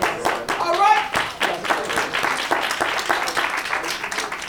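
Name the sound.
a few people clapping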